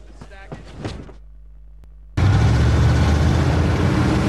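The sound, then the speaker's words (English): A brief voice and a quiet pause, then a sudden loud, steady roar of heavy vehicles as a convoy of Humvees and trucks rumbles along a desert trail in Iraq without letup. “A convoy of Humvees and trucks is making its way along a desert trail.”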